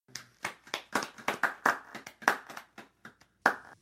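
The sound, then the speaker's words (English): Sparse, scattered applause for the RIAA from a handful of FBI agents at a morning debriefing, a dozen or so uneven claps that quickly thin out and stop, with no voices. “I realize you haven't had a chance to drink the coffee yet, but that was some pretty weak applause.”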